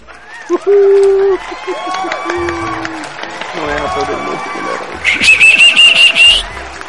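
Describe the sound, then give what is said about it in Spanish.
A lively crowd at a New Year's celebration in a theatre cheers and claps in a steady, dense roar, with shrill whistles cutting through, one held long whistle near the end over rising, pulsing applause. “Bienvenidos al gran party del año. Aplauso a todos.”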